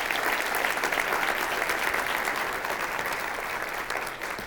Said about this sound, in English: So let's give her a round of applause, please.